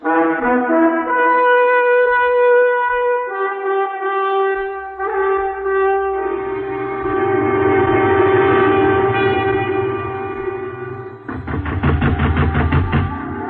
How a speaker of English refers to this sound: Is Harmon Gow, pounding on the door of Ethan Frome's little farmhouse. Harmon has a young man from the city with him, and the two of them are stamping and flailing their arms to keep warm, for it is a cold winter night in Starkfield, Massachusetts,